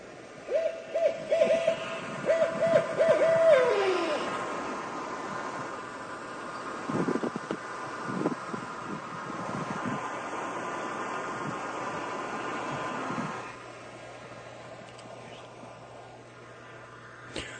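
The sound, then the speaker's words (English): A barred owl gives a run of throaty hoots that ends in a drawn-out, downward-sliding call, followed by a long stretch of steady, rushing background noise. “That was a barred owl that's available on YouTube.”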